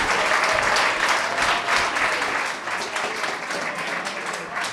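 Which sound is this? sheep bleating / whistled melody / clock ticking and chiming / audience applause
audience applause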